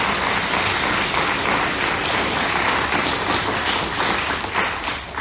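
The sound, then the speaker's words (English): A crowd applauds steadily, a dense wash of many hands clapping at once, loud and sustained for about five seconds before easing slightly at the end, with no voices over it. “It deserves a round of applause, wouldn't it?”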